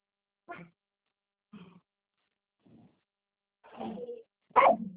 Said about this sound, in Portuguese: Para, Chiquinho. Não, é a minha cachorra.